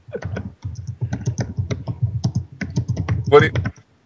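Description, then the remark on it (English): Rapid, steady keyboard typing as someone searches online, a dense run of crisp clicks, with a brief pause near the start and a louder burst of keystrokes toward the end. “I can hear it clicking away. Some serious Googling is going on somewhere.”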